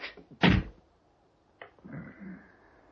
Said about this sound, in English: You'll come back. And when you do, you make up for that slap.